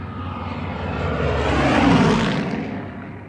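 A Spitfire fighter plane, a British-engineered aircraft, roars loudly with engine and propeller, swelling as it sweeps overhead and then easing off again, with no voices.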